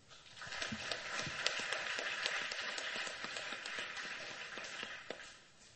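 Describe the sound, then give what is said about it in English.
An audience applauds the speakers steadily for several seconds, a dense, even patter of many hands clapping at once that stays fairly loud throughout and then tapers off at the end. No one speaks. “I don't think we have time for questions, but you can just give them a round of applause. We just did that, but that's okay.”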